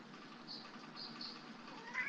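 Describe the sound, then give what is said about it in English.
A cat mews a few times in quick, short calls, soft, over a steady low hum. “Hi, kitty cat.”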